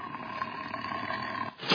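A loud, growling tiger roar, like a sound effect, rumbles steadily for under two seconds and ends with a sharper, brighter burst. No one speaks over it.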